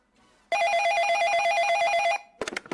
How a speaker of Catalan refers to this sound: I ara sona el telèfon.